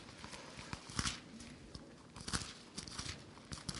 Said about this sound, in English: Over to Deuteronomy 25, please. I can get my pages turned.